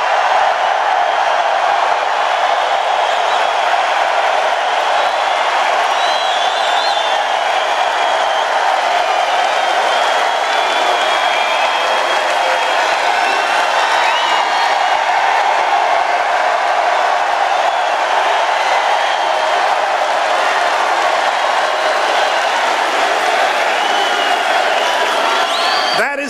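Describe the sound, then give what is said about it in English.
A large rally crowd in a massive arena cheers and applauds in a steady, dense roar of voices and clapping that holds at an even, loud level for nearly half a minute, with occasional whoops rising above it. “The people can hear the crowd.”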